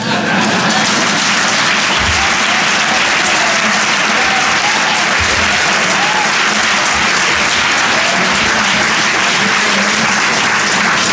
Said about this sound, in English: Those of you who can't see on C-SPAN, we had one or two working press clap along with the non-working press.